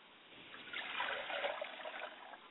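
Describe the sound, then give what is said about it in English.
Liquid is poured out as a libation to the south in a steady trickle that swells slightly in the middle and keeps flowing for a couple of seconds, with no voices over it. “I pour libations to the south, and I say, Ashe.”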